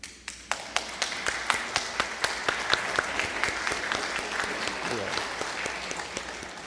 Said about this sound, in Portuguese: Quero convidar todos aqui presentes, os meus colegas, e as pessoas que estão em casa nos assistindo, para que a gente aplauda esse momento glorioso que estamos tendo aqui.